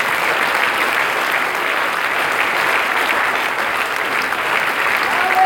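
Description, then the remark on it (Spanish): Sustained applause from a large church audience, given to the Lord, a dense, steady wash of clapping hands at a consistent loud level with no voices rising above it. “Pero denle un aplauso al Señor.”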